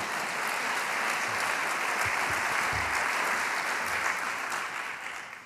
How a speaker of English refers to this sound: How about a nice round of applause for Tim Gold? Right?